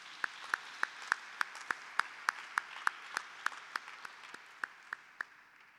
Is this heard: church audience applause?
yes